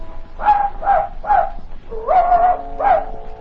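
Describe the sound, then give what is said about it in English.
A dog named Wolf barks and yips, five sharp bursts in quick succession, with one longer whining yelp in the middle; no one speaks. “Wolf, heel.”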